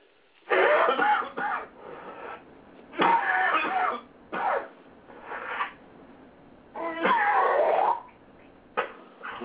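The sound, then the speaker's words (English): Someone gargling salt water in several wet, bubbling bursts of uneven length, separated by short pauses, with a rough, throaty rattle and no talking. “That sounds like some good salt water.”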